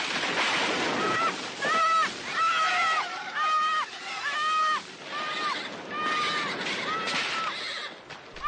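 A horse whinnies repeatedly in loud, shrill bursts as it falls into a raging river, over a constant rush of churning water, the neighs coming close together in an agitated, strained rhythm.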